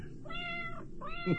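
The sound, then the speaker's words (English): An old cat meows twice in quick succession, asking to be lifted up. A longer drawn-out call is followed by a shorter rising one, against a faint low background hum, with no talking. “Cat. You want up, huh? Up you go.”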